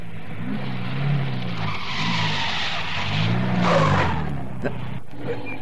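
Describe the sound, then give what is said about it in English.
A car swings around sharply on a road to turn back from jeeps blocking the way ahead, with a long screech of skidding tires over a rumbling engine, the squeal rising and wavering before the vehicle pulls away; loud. “Turn around, quick.”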